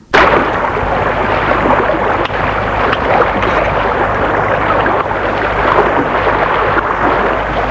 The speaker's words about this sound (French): Bateau.